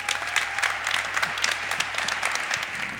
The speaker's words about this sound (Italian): Un grande applauso